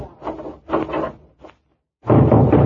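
A wooden door is pushed shut with scraping, rubbing thuds, then a short sharp click of a key turning the lock, a pause, and a louder rattle against the door.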